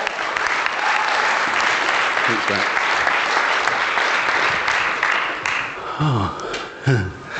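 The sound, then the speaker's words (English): Sustained applause from an audience welcoming a speaker to the stage fills the space, steady and loud, then tapers off as a man's voice speaks briefly near the end. “So let's honour him, let's clap, let's welcome him to the stage.”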